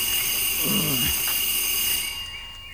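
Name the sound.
doorbell ringing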